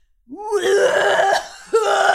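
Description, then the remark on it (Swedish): A voice imitates a man's harsh, heavy coughing in a toilet in the morning: two rough, raspy bursts, the first long and gravelly, a short pause, then a second strained hack. “Och alltså går in på toaletten och hostar ut sina lungor.”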